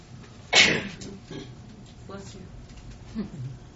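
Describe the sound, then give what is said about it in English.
A single sharp, loud sneeze bursts out, followed by a few seconds of quiet, indistinct voices murmuring in the background. “Bless you.”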